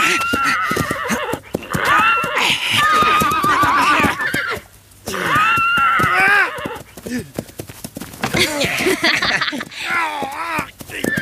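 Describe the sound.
Captured wild stallions neigh and whinny repeatedly in loud, shrill bursts as warriors try to break them in and are thrown off again and again, with hoof clatter and a busy, agitated commotion throughout, and some voices mixed in.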